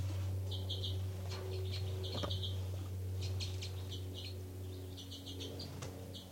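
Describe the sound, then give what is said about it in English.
Very soft, high calls from two birds, numbered 273 and 274, with 273 calling first and then 274. The calls come in short chirping clusters, a few quick notes at a time, repeated several times over a steady low hum with no talking. “Very soft calls, 273 first, then 274.”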